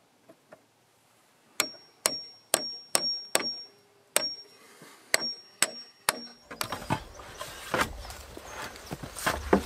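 Hammer pounding in a run of sharp, evenly spaced strikes with a metallic ring, some echoing faintly, then a rougher, denser stretch of rattling knocks and clatter toward the end.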